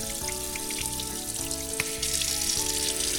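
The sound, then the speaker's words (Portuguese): Olives being rinsed under running water to wash off excess salt: a steady hiss from the tap with small patters and splashes throughout, while soft tonal background music plays underneath. No one speaks. “A gente vai pegar a azeitona e dar uma lavada nela para tirar o sal, que esteja demais, e para tirar também qualquer coisa aí que estava ajudando na conservação, para ela ficar com gosto só de azeitona, tá?”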